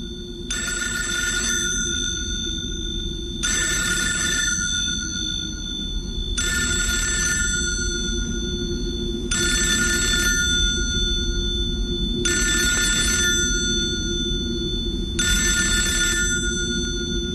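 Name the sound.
telephone bell ringing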